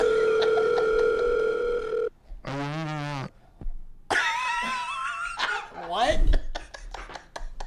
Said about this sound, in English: I have another call on my other line. What kind of phone does this guy have? There's a phone calling my other phone.